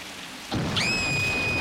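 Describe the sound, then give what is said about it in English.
A sudden crash of thunder breaks in over steady rain, then a high, sustained ringing tone lingers above the continuing downpour. “Scared by the lightning, she goes in.”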